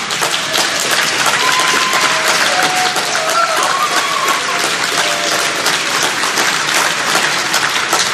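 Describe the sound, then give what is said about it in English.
Sustained applause from a sizable audience at the 7th General Assembly, a dense, steady wash of clapping at even loudness throughout, with a few faint whistles or cheers rising above it. “And before we continue with the applause, let me complete the procedure.”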